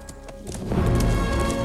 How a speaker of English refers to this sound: the black horse gallops away.